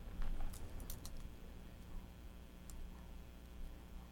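Translucent plastic toy keys with bows on them rattle softly in a few quick bursts of light clicking, a cluster near the start and one more tap later, against a quiet background with no talking.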